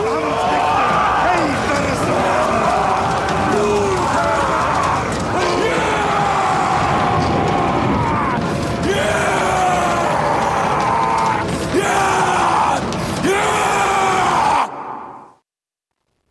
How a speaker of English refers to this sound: as you'll hear in this scene in which the Vikings, on a night before a raid, are doing a warrior dance, chanting around a bonfire at night. The chant turns into roars, and at the end, you hear Skarsgård howl.